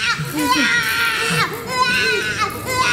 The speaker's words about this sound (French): Oh, comme il pleure. Qu'y a-t-il? Ne pleure pas.